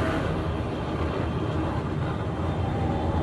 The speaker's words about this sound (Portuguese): Neste vídeo, eles aceleram e empinam as motos. Este vídeo mostra que a confusão é tão grande que por pouco os motoqueiros não colidem uns com os outros.